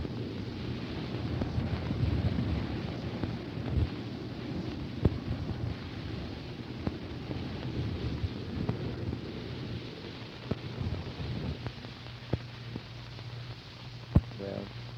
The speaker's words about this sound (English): as it goes past the porthole, the roar of the water as we're cutting through the water, we're going about 25 knots. I'll hold the mic again out of the porthole. There are no jets warming up right now, I don't think. And see if you can hear the water.